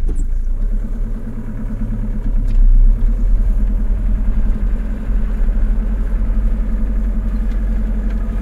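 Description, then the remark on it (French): A van engine runs steadily with the heater on, before a drive to Barjac at daybreak, a low rumbling idle with a rhythmic mechanical clatter that swells briefly as it revs, then settles back into a constant drone. No one speaks. “Annick prend le volant de sa camionnette.”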